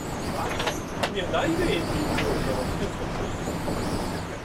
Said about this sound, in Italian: Il vento delle eliche e il rumore dei moschettoni affrancati sono i suoni che riassumono meglio di tutti gli interventi in fune sulle cabinovie bloccate.